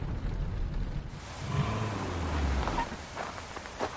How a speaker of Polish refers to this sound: Ta burza chyba szybko nie minie.